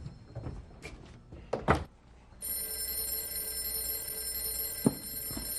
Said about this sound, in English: I think I hear the phone ringing in the other room. Let's go answer it.